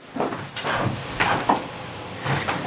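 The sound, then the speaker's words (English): A door being pushed shut, with a few short knocks and rattles spread over a couple of seconds and a soft hiss underneath. Nobody speaks. “Instead, I had to close that door, but instead decided to get a drink of sparkling water and sitting out in the sun outside in front.”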